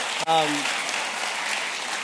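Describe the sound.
Steady crowd applause, a dense wash of many hands clapping at an even level, with a brief tonal voice-like hum at the start before the clapping continues unbroken, given for the kindergarten through fifth grade kids brought up front during a morning gathering on Baptism Day.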